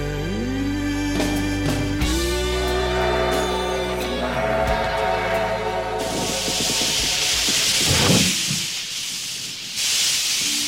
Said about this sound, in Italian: l'Ombelico del Mondo dispone di un treno a vapore e anche oggi appare nel nostro studio